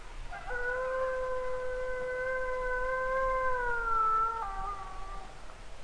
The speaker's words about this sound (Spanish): Como dominando la quietud del aire, escuchamos el aullido de un lobo.